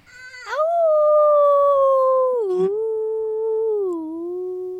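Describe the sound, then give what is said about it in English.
A child's voice lets out one long, sustained howl imitating a wolf, holding steady before sliding lower in pitch in a couple of steps over about five seconds. “So we're going to howl at the end together.”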